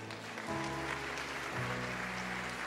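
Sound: audience applauding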